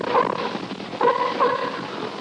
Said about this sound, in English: And we're going to play a little clip for you right now. The first thing you'll hear is a sea lion's bark. And then immediately following that, you'll hear Luna's vocalizations. So here's the sea lion's bark.